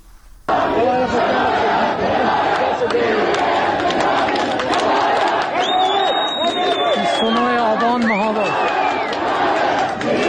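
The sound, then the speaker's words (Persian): A large crowd around a police station in Mahabad shouts and calls out continuously, loud and dense throughout, with many overlapping voices raised together and a few higher-pitched cries rising above the din. “در اطراف کلانتری، یکی از کلانتری‌های مهاباد که در ویدیو منتشر شده تعداد زیادی از جمعیت دیده میشن که فریاد حمایت از جانب نیرو انتظامی میخوان.”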